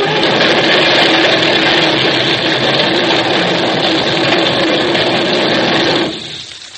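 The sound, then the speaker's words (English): The engine of a runaway truck loaded with TNT, in a Dick Tracy radio drama, roars loudly and steadily, a dense rumbling drone that holds for about six seconds before abruptly dropping away to a faint hiss. “My truck! She's running away!”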